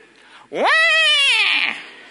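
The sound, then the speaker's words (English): A voice imitates a baby's wail when its feeding bottle is suddenly whipped away from its mouth: a single loud, wavering cry that swoops up sharply, holds for about a second with a shaky, bleat-like quiver, then trails off. “Wait for the sort of suction thing to begin fully, so the kind of wait for that to kick in, and then without warning, whip the bottle away and wait for the reaction.”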